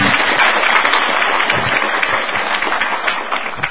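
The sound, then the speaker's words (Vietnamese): Sustained applause from a Buddhist audience, welcoming a nun being introduced, fills the space, a dense wash of many hands clapping at once, steady and fairly loud throughout with no voices standing out. “Xin các Phật tử cho một tràng pháo tay.”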